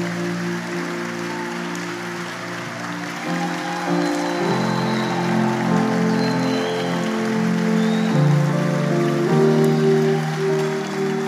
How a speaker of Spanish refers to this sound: ¿Cuántos hoy le dan un aplauso, Señor, por esta palabra? Vamos, quiero oírlo.